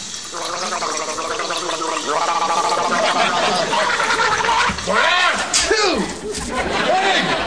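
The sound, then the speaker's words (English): A person gargles a blue liquid, toilet bowl cleaner rather than gargle, loudly and continuously, the bubbling throat sound wobbling up and down in pitch for several seconds. “Well, just gargle.”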